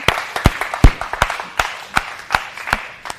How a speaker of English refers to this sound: Y'all can clap for Jesus. Clap for Him. And now, if you're going to clap for Him, really clap for Him. Praise God.